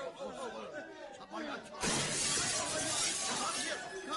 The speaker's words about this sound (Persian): حمله کردن، حمله کردن مردم جناب قنسول. مردم شیشه قنسول را شکستن.